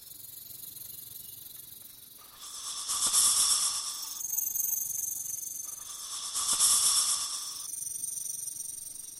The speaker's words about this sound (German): Aufpassen, da höre ich eine Schlange.